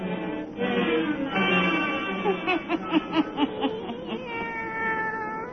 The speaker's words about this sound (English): Let us join old Nancy and Satan, her wise black cat.